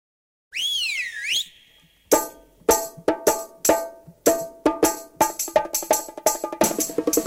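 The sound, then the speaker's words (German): A bright whistle glides up and down in a wavy, warbling sweep for about a second, followed by a lively run of loud, ringing struck notes in quick rhythm. It is the signal on Bayern 2 radio on Friday afternoon that starts the finale of the Jewish quarter-hour program. “Wenn's am Freitagnachmittag hier auf Bayern 2 pfeift, beginnt das Finale von unserer jüdischen Viertelstunde ganz ohne Showtreppe.”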